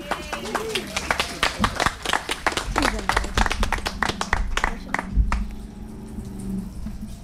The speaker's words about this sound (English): And I'll give that a round of applause